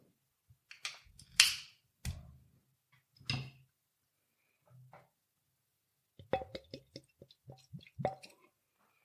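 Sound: beer bottle being opened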